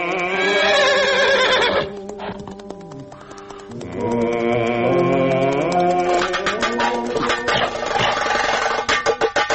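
A horse whinnies loudly, a long shrill neigh followed after a short pause by another quavering whinny, with faint rhythmic clatter near the end.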